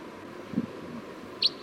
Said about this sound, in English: Sounds like there was a wild crossbill down the hill.